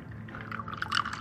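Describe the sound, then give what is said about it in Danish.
A short pour of a shot of coffee into a glass, a brief trickling splash with a few bright clinks and gurgles rising toward the end, heard alone against a low steady hum. “Kaffe i glas.”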